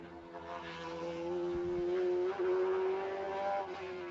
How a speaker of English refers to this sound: So that Porsche for the moment, that flat six, not making any noise. And all the thunder on the track, no lightning in the air, thank goodness, is from the two V8 Corvettes.